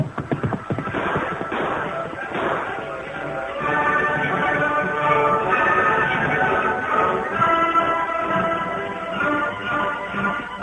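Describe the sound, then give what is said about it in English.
Two men's horses gallop away into the hills with a fast, loud, drumming clatter of hooves, then sustained musical tones swell over the continuing hoofbeats. “Escaping into the hills, the two men rode all that night and most of the next day.”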